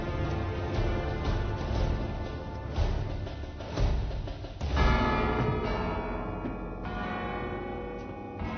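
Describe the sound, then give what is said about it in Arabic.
A bell rings loudly and repeatedly, its strikes overlapping into a dense, resonant clangor with a long ringing tail, continuing throughout without any voices. “من يرن الجرس الآن؟”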